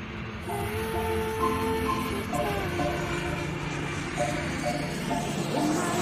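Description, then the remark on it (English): Subway station ambience with a train rolling through: a steady, fairly loud rumble with shifting metallic squeals and tones layered over it, and faint voices in the background. “Scat calls Six from an airport as she climbs the steps out of a subway.”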